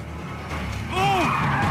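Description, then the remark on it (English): Car tires screech as a car skids round, a short skid that rises and falls in pitch, loud over a low engine rumble, with no one speaking. “A car skids round”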